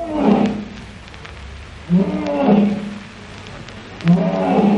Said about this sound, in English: Let's hear what a real lion sounds like.